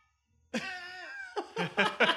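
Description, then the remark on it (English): A cat being tormented lets out one long, drawn-out meow with a rising then falling pitch, followed by a few short, quick bursts of sound. “We are tormenting the cat as we speak.”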